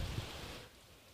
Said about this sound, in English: You can hear the rain. I think.